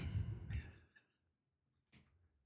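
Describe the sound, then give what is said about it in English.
A female dog named Ivy breathes heavily: a long, loud, huffing exhale, a brief silence, then a shorter breath. No one speaks. “She was fucking come on breathing over here heavy. Lay down.”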